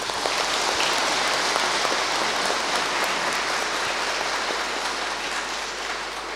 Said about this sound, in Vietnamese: Để nói lên niềm vui của sự bình an mà Đức Giêsu phục sinh đem lại, chúng ta hãy chào mừng nhau và cầu chúc nhau bằng một tràng pháo tay giòn giã.